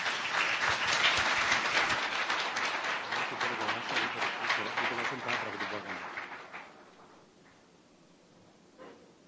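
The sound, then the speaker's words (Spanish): A church audience applauds a newly united couple as they are presented, in a dense, steady wash of clapping that holds strong for several seconds, then fades away, leaving quiet murmuring and a few scattered sounds. “Un aplauso, por favor.”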